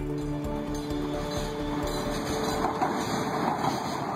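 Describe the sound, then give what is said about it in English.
A train rolls past on its rails, a loud low rumble with rhythmic clacking that gives way to a broad rushing roar. No one speaks. “Now on to trains.”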